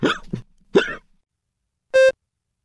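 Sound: hiccups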